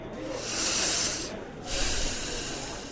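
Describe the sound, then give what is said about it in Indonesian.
A deep, hissing breath drawn in through the nose, airy and fairly loud, followed after a short pause by a second, rougher rush of breath. No one speaks. “Sekarang coba kamu tarik nafas dalam-dalam melalui hidung.”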